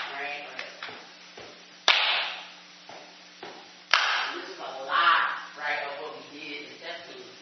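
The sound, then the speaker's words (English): Step-team style body percussion of sharp claps and slaps in an irregular pattern, a few soft hits and two loud smacks, with wordless vocal sounds continuing underneath. “The body is a drum. And the body as drum, and you're doing it again in coordination with people.”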